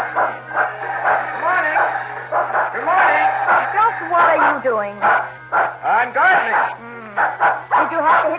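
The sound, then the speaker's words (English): Excited barking and yelping goes on almost without pause for several seconds, fairly loud, with whiny rising and falling cries mixed between the barks. “Oh, will you unhitch that barking horse at once and stop this nonsense?”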